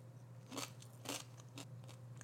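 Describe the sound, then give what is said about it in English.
Crunching of oven-roasted beans being chewed, with three or four sharp, crisp bites at irregular intervals over a steady low hum, and no talking. “Delightful, lovely crunch. I mean, they taste like any roasted bean.”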